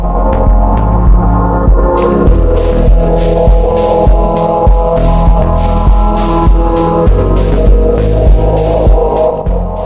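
Minimal electronic music plays loudly and steadily, with a regular pulsing beat under sustained, layered synth tones and crisp high percussive ticks repeating evenly throughout, with no voices.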